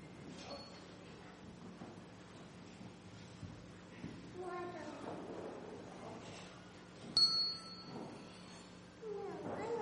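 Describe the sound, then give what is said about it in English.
A handbell gives a single bright, ringing strike that lingers briefly, heard over a low room murmur with faint voices and shuffling in the background. “Anybody else want to be a bell ringer today?”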